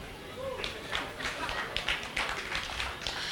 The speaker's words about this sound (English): I noticed that it's only the brothers that clap. The sisters did not clap.